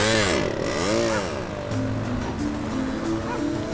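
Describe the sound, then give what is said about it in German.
A small two-stroke moped engine rattles and revs up and down a couple of times as a boy rides off on it, then settles into a steady buzzing drone as it pulls away, fairly loud throughout. “Aus der Ferne hörte man noch sein hässliches Lachen und kurz darauf erklang das Knattern seines Mofas, mit dem er davonfuhr.”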